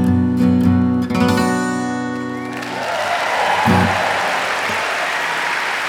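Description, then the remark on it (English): A sustained musical chord rings out, then a large crowd at Carnegie Hall bursts into loud, steady applause that fills the rest of the moment, with scattered cheers mixed into the clapping. “Crowd at Carnegie Hall.”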